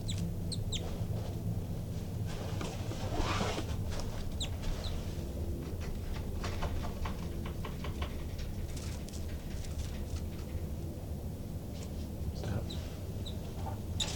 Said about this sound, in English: Recording that disturbed the birds quite a bit, and the two new babies popped out of the nest and they're climbing the screen now. But it's recording. Babies are fluttering around.